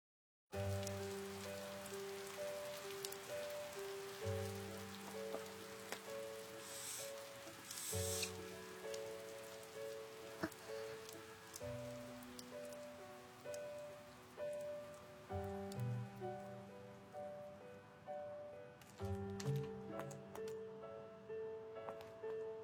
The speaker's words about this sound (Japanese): 雨、やっと止んだね。